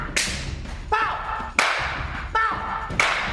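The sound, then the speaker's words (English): Three sharp, loud hand claps spaced evenly about a second and a half apart, each with a quick bright snap, with short voiced sounds in between. The claps are part of gumboots, a percussive African dance. “You want to clap pow!”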